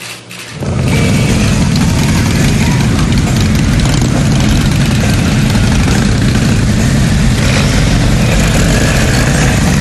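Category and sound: vehicle, motorcycle engines running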